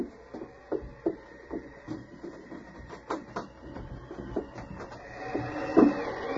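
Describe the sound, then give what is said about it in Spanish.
A wooden door is unbarred and opened: a series of irregular knocks and clunks as the bar is worked loose, then scraping and a louder creaking thud as it swings. “¡Un momento, señor Mu! Voy a abrirle.”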